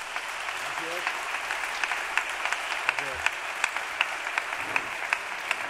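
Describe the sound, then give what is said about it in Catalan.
An audience applauds steadily for several seconds, a dense, even wash of many hands clapping at moderate loudness with a few faint voices rising briefly beneath it, for a Valencian flamenco guitarist from Castelló who has just been introduced at a music performance. “un fort aplaudiment.”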